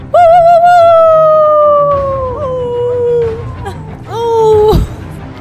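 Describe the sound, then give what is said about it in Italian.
Wolves howl in long, drawn-out, wavering tones, loud and approaching, on a snow-covered hilltop in the evening, with a second howl rising toward the end before breaking off abruptly. “Si è fatta sera e loro sentono l'ululato che si avvicina.”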